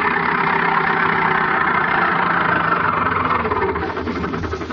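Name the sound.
car engine approaching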